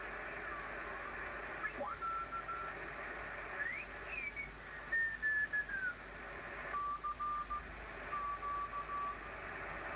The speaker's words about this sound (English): There's a tone and Morse code. Now I'll try and notch that out.